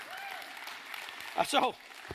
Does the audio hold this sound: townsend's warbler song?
no